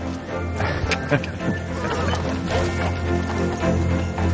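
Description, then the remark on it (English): Two horses clop at a steady walking pace as they pull a carriage along a road lined with twinkling Christmas lights. The sharp knocks sit over a low, constant rumble and a faint background murmur. “Two horses pull the carriage forward.”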